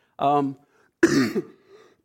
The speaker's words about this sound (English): So sorry about the coughing.